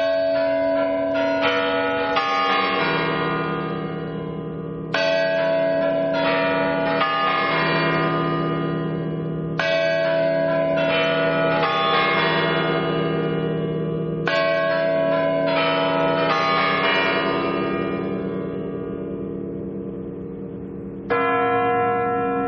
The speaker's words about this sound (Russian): В 1996 году во время инаугурации Бориса Ельцина куранты после традиционного перезвона и отбивания часов после 58 лет молчания вновь заиграли.